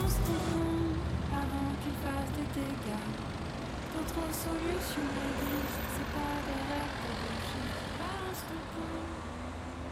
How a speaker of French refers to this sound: Ouais, je suis sur la route là. Ben non, j'ai pas pris le bac, hein, y en a pas. Ça roule, ça roulotte, ça stagne, quoi.